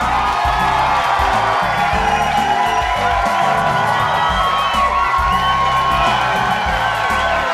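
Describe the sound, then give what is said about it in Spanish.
A crowd cheers and claps continuously, with whoops and shouts rising over a dense, steady wash of applause throughout. “Ellos aplauden.”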